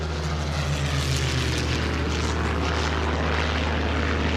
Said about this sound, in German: Als der Motor ansprang, flüsterte sie leise: Siemens SH-14 Sternmotor. Hörte das vertraute brummige Surren und fühlte, wie das Rattern ihren Körper vibrieren ließ, bis in die Haarspitzen.